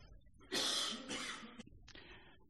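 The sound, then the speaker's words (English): A loud, harsh cough in two quick bursts, followed by a softer third hack, with no talking. “Do you feel like everybody's watching you when you cough these days?”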